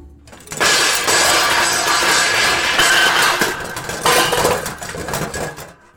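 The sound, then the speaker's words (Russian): A heavy metal cabinet crashes down onto two people from above, a loud burst of clanging and rattling debris that keeps clattering for several seconds before tapering off. “Металлический шкаф упал на них сверху, вырубив обоих.”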